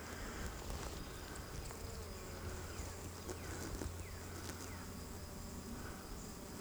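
A dense, steady hum of many honeybees buzzing on an open hive frame of capped brood during a hive inspection for the queen, a continuous swarming drone with occasional higher whines as individual bees pass, and no voices.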